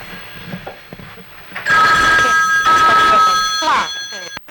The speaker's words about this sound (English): That's your phone.